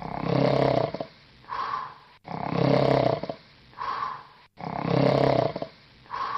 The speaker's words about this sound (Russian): Довольный и сытый волк лег в кровать и сразу уснул, громко захрапев.